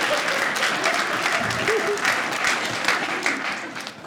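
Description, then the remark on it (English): Sustained applause from a stand-up comedy audience, a dense, steady wash of many hands clapping for about four seconds, with faint crowd murmur mixed underneath before it starts to taper at the end. “You better clap, I broke a blood vessel for you”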